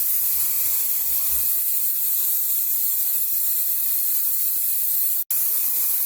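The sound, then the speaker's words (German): A can of carnival hair spray hisses in one long, steady, bright burst for about five seconds, cuts out for a split second, then sprays briefly again. No one speaks. “So Faschingsspray.”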